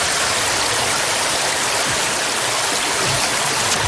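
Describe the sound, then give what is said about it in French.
A steady rush of flowing water, like a stream or small cascade, filling the whole stretch with dense, continuous hiss and burble, with no voices. “L'élément eau.”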